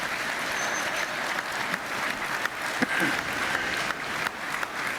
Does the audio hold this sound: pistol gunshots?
no